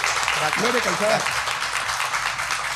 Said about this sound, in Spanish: Hermosa, damos un aplauso enorme con cariño a Gloria Calzada.